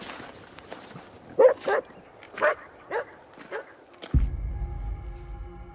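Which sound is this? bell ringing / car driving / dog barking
dog barking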